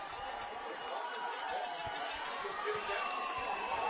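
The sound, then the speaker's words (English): A Hamilton crowd at a football game cheering after a 94-yard touchdown pass. A dense, steady roar of many voices holds at an even level for the whole few seconds, with no single voice standing out. “And listen to this Hamilton crowd.”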